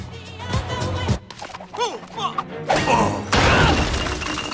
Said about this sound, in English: Melman helps Alex over the zoo wall, but Gloria simply smashes through the wall